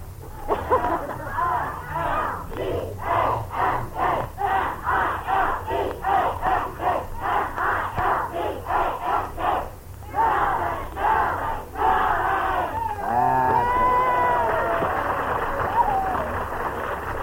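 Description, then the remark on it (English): A crowd of high school seniors from Milbank, South Dakota shouts their school yell in unison, loud, with sharp repeated bursts followed by a rising jumble of excited yelling and cheering. “If any of you have a school yell when I mention your name, yell out your school yell.”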